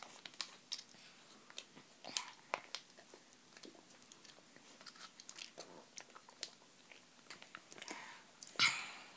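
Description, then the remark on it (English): Wet chewing and lip-smacking noises made by a person imitating someone eating chocolate pudding: a steady run of soft squelchy clicks and smacks, fairly quiet, with no talking. “So this will be the noise that Amelia makes when you give her chocolate pudding. I can do it.”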